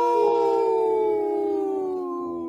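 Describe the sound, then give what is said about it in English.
People on the radio show Native Roots Radio Presents I'm Awake, in a segment supported by Howling for Wolves, imitate a wolf's howl in one long, loud, drawn-out call whose pitch sinks slowly from start to finish, with no talking. “You know, if we would have had our chihuahuas there, they would have started howling with us.”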